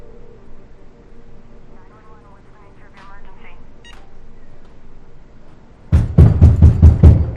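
A phone call is being dialed in a kitchen at home: short, faint electronic beeps and tones over a low steady hum, then a burst of loud, heavy, repeated thuds in the final seconds.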